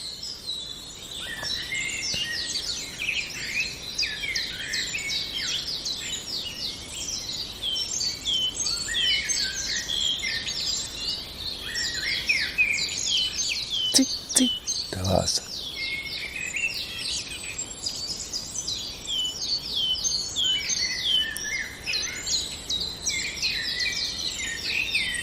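A common chiffchaff sings somewhat distantly amid a busy, continuous chorus of other birds chirping and trilling, with no voices and a brief low thump midway.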